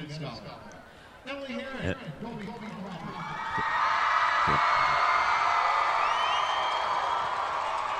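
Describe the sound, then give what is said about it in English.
A few voices are heard at first, then a large crowd erupts into loud, sustained cheering and whooping that swells after a few seconds and holds steady to the end, reacting as a couple is announced at a podium. “So what was the cheer about? That one got quite the reaction.”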